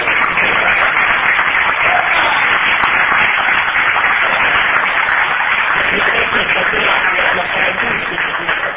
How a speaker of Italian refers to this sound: Vorrei festeggiare con un applauso il 38° anniversario di matrimonio